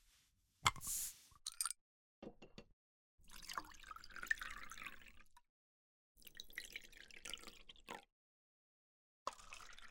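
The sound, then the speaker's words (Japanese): Beer is poured into a glass at a shabu-shabu meal, in several splashy, fizzing bursts separated by short silent pauses, starting with a sharp loud splash and settling into steadier hissing streams. No one speaks. “ああそうだ、ビールお注ぎしますね。”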